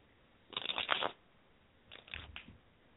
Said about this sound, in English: And I'm shuffling the cards.